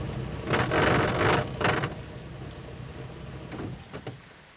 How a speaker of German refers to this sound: Dann beginnt es auch schon zu gießen. Dicke, schwarze Gewitterwolken ziehen von überall her heran.